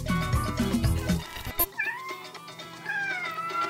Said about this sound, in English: That's my kitty cat, Max